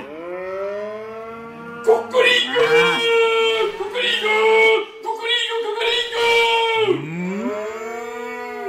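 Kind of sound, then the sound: animal, herd of cattle mooing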